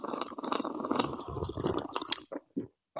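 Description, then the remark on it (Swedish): A loud slurping sip of hot coffee taken at a microphone, lasting a couple of seconds, wet and airy, followed by a few short swallowing and mouth sounds with brief pauses between them. “Och nu kommer en extra ASMR-sipp för er som älskar och hatar.”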